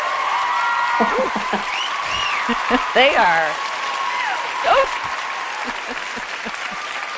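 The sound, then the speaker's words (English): A studio crowd at the Contact Center Expert Show cheers and applauds steadily, a dense wash of clapping with scattered whoops and shouts rising above it, while a voice speaks briefly over the noise. “Listen to that crowd.”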